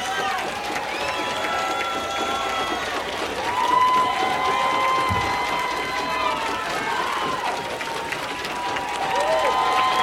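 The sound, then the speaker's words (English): A large concert crowd at the Old Waldorf in San Francisco applauds and cheers continuously, with shouts and whistles rising over a steady roar of clapping, loud and sustained throughout, waiting for the band to come back out for an encore. “They're back in the dressing room, we'll have to wait for them to come out, but I suspect from the crowd's reaction, they'll be out in a minute.”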